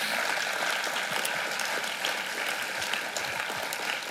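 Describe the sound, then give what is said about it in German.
A crowd claps in a dense, steady roar of applause for about four seconds, celebrating the start of a Microchurch in Gammertingen, countless hand claps blurring into a continuous crackling wash without any clear voices on top. “Und heute sind die beiden Leiter da und heute dürft ihr den Applaus selber auch nochmal hören.”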